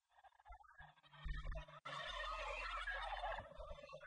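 A turkey that has got loose gobbles loudly, a rapid rattling burst that swells and carries on for several seconds with no one speaking.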